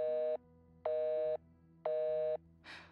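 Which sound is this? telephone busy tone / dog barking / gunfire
telephone busy tone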